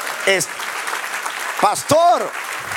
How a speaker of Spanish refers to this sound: Den un aplauso, Señor.